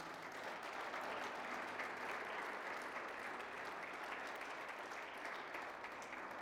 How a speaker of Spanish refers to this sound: ¿Cuántos dicen amén? Podemos darle un fuerte aplauso a Dios.